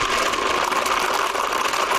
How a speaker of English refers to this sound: Let me start the blender and let's see what happens here. Just hang on.